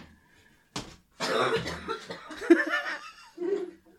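A loud coughing fit: one sharp cough, then a longer run of rough, breathy coughs over a few seconds, ending in a short final burst. No one speaks.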